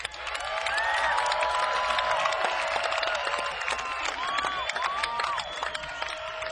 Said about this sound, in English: can you indicate with an applause meter how high we are?